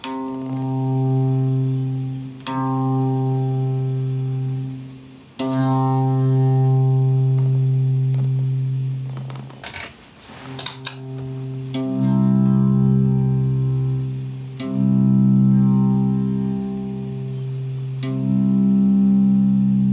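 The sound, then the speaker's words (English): A sustained electronic drone, made for a short meditation, holds a low, buzzy harmonic tone, briefly interrupted by a few sharp clicks and a noisy burst before the steady, slightly shifting pitch resumes. “Okay, there's my drone.”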